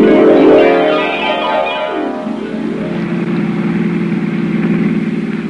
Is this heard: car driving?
yes